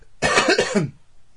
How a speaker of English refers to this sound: So, excuse me, I've got to clear my throat.